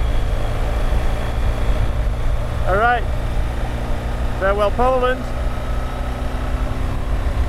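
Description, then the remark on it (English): A steady, heavy roar of wind buffets throughout on a bridge between Germany and Poland, low and constant, while a man speaks a few brief phrases over it partway through. “All right, I don't even know if you'll be able to hear me over the sound of the wind.”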